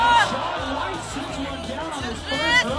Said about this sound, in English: Listen to the crowd as Shaun White fell on his first run.